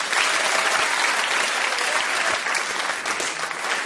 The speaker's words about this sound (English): So when the audience clap their hands, this round is over.